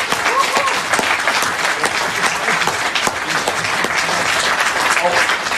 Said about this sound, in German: Und dazu auch von meiner Seite nochmal ein riesen, riesen Dankeschön, einen riesen Applaus für Ihre tolle Leistung.